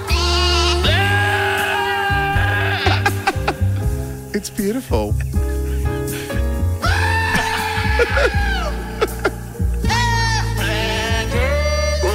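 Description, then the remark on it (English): Goat bleats stitched into a Christmas carol tune over a steady musical backing, the wavering cries rising and falling as the melody. A voice briefly speaks over the music. “Goats singing Christmas carols make me happy each and every year.”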